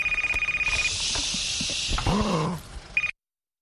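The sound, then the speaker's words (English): A phone rings in a movie theater with a rapid, pulsing electronic trill over a hissy background, followed by a short warbling sweep and a final brief beep before it cuts off. “can you please turn your phone off?”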